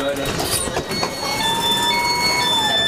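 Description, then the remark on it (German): A train's automatic doors close at 5 in the morning with a steady, high electronic warning tone held over the rumble of the carriage, with faint voices in the background. “Die Türen gehen immer automatisch zu, aber wenn jetzt jemand wieder den Knopf drückt, weil die Bahn noch nicht losfährt.”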